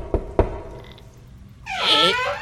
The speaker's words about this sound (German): Ja, den habt ihr genau vor der Tür gelassen. Okay, dann klopfe ich an.